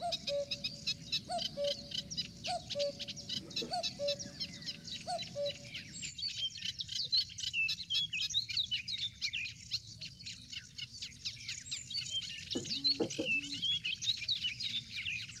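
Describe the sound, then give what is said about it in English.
Birds call outdoors in a nature film clip about cuckoos, over a steady, busy chorus of high chirping, with a low two-note call repeating about every second and a half early on, then a brief deeper call later. “And to show how this looks, let's just quickly look at this movie clip that you get an idea what these cuckoos are doing.”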